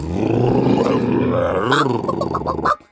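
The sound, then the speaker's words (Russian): A tiger cub lets out a loud, rough roar that lasts nearly three seconds, wavering in pitch partway through before cutting off abruptly. “Я тигренок, а не киска.”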